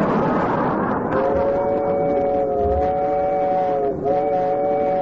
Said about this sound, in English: But this is the slowest train I ever rode on.